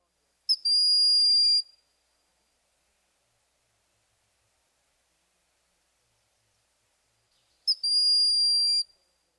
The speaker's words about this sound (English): Now let's review the hawks themselves. First, the broad-winged shrill whistle.